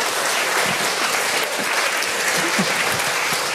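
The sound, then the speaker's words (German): An audience claps steadily, a dense, loud wash of many hands applauding with no break, holding an even level throughout. “Also ich würde sagen, das ist ein Applaus wert.”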